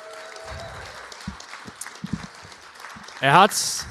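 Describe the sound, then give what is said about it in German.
Scattered thumps and low murmuring, then a loud rising whoop and a sudden burst of audience applause in the final half-second, for a performer who turned a Christmas song into a buffet song. “Okay, dann Applaus für”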